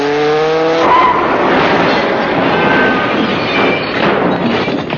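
A car driven by a blindfolded driver revs its engine with a rising harmonic whine, then breaks into loud, sustained tyre screeching and roaring as it speeds away, filling the whole stretch with harsh, noisy sound.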